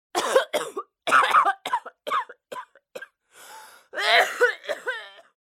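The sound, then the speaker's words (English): A loud run of harsh coughs, about a dozen short bursts in uneven clusters, some raspy and wheezing, with a breathy gasp partway through and no talking. “A cough releases an explosive charge of air that moves at speeds up to 60 miles per hour.”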